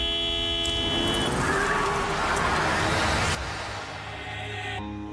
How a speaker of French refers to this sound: Tu sais ce que c'est un klaxon de courtoisie, jeune homme ?